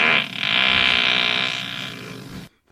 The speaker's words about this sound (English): That's a stinky fart. Don't you just stay down there? It's fine. It was a stinky fart.